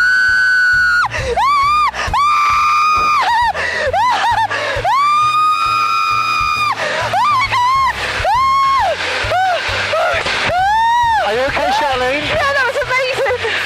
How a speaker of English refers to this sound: Screaming was good screaming, trust me.